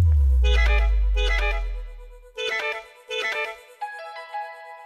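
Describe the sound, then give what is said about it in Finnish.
A telephone rings in repeated electronic bursts as a studio calls author Philip Teir: two long tonal rings followed by two shorter ones and a fading tone, fairly loud and clear with no one speaking. “Ja otetaan sitten puhelimessaan kirjailija Philip Teir”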